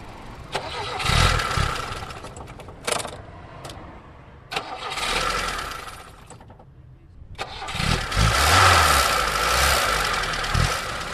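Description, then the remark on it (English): The cold engine of a vintage, faded-orange Lada car cranks and sputters through several starting attempts outdoors in Hialeah, Florida, with loud bursts of revving separated by brief pauses before it catches and runs roughly, alone. “And let's hear what the Lada's engine sounds like.”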